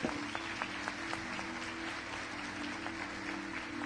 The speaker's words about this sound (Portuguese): São pastores de Campos do Jordão que estão caminhando conosco como filhos, estão sendo recebidos hoje. Você pode recebê-los com uma salva de palmas?